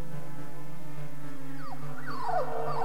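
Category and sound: animal, dog howling and whimpering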